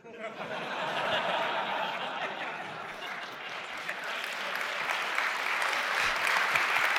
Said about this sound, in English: Wait, applauding that joke is just so wrong.